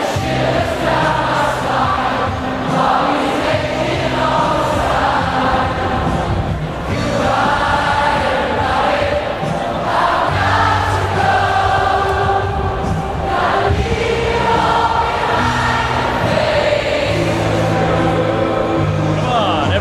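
A huge stadium crowd of about 65,000 people hums the guitar parts of a song together in unison, a loud, sustained wordless chorus with rising and falling pitch that keeps steady, perfect time over a low rhythmic backing.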